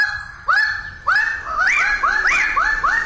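Male Raggiana birds of paradise crowing in lowland forest on the island of New Guinea in early morning: loud, nasal, upward-swooping calls repeating in quick succession, several birds overlapping, with no voices.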